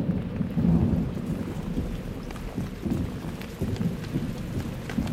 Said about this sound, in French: Mais au bout de 2-3 heures, il commence à pleuvoir. Il faisait 4 ou 5 degrés au-dessus de zéro. Et donc je me retrouve avec les jambes couvertes de pluie qui ruissellent.